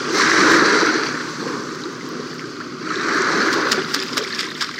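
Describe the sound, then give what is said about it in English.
Water sloshes and laps steadily against a seawall on Long Island Sound, swelling and easing in broad waves with small splashy ticks near the end; no voices. “We leave you this week on a seawall on Long Island Sound.”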